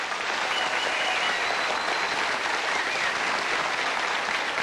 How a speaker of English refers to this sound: Now then, we'll call the roll, and I wish you nice people here at the Gaslight would applaud this pretty lady,